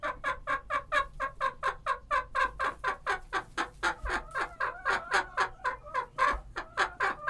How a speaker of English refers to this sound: And that's one of Fredrickson's birds, Chickaletta, laying an egg. She and five other hens have been jostling all morning for the right to lay an egg in their favorite straw-lined flower pot, turning their beaks up at the identical one next to it.